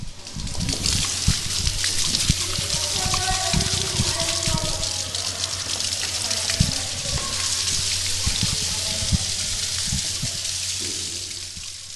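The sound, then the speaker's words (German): Water splashes and churns continuously for the whole stretch, busy, with sharper slaps scattered throughout and faint, echoing voices in the background, during a school water-familiarization swimming lesson. “Wassergewöhnung.”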